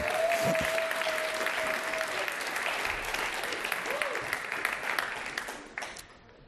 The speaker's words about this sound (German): Backstage ab heute einen herzlichen Applaus auch für die Teenies in unserer Gemeinde.